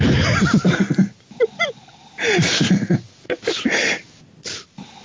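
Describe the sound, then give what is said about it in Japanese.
Loud, rasping snores come in several rough bursts, each a ragged rumbling breath, separated by short pauses with faint whistling, snorting sounds in between. “で、あんまり うるさいな、いびき。”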